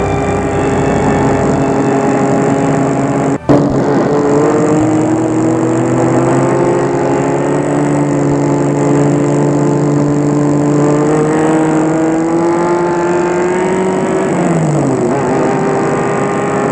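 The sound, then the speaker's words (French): A car engine hums steadily, its pitch rising slightly before winding down near the end as the car comes to a stop in front of a laboratory at night, with a brief sharp click early on. “Une nuit, une voiture s'est arrêtée devant le laboratoire Jeune Tout Pontois.”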